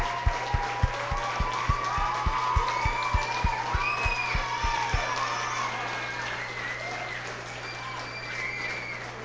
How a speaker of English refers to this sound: And let's all stand and give her a big hand clap.